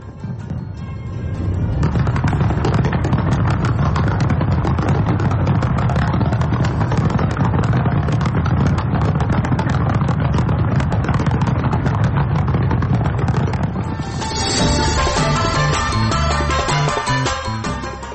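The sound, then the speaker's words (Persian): A dense, continuous barrage of crackling bangs and booms from fireworks opening the Winter Olympics opening ceremony in South Korea, loud and sustained throughout, with a shift near the end toward sharper, brighter bursts and a possible musical tone. “این مراسم با آتش‌بازی آغاز شد.”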